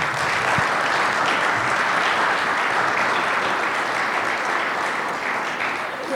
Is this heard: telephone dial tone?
no